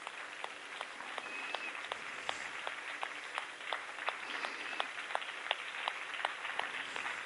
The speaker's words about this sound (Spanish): Están con un amén, entonces levantémonos y damos al Señor un aplauso.